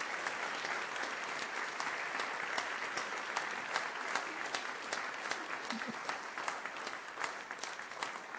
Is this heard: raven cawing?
no